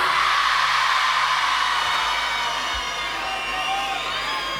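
A crowd applauds loudly and steadily for several seconds, a dense wash of clapping with a few whoops and cheers rising through it.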